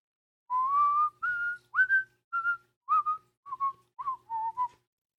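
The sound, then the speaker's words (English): Someone whistles a short melody, a string of clear pitched notes rising and falling in uneven phrases, with brief gaps between them and no talking. “See if I can whistle it.”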